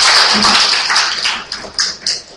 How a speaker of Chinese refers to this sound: 咁就…叫我代表佢哋系向大家讲声多谢。 我又俾个掌声，多谢大家啊！